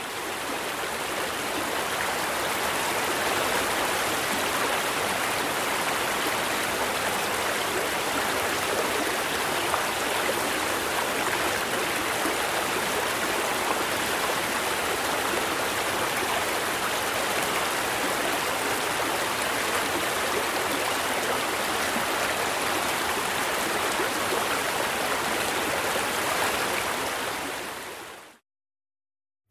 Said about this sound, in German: Ein stark rauschender Bach oder Fluss ist vom Frequenzspektrum her nämlich eher mit dem weißen Rauschen zu vergleichen.